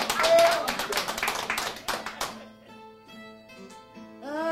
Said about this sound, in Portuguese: As palmas que tu esperas, que este povo te está dando, as minhas foram sinceras, as tuas estão te abusando.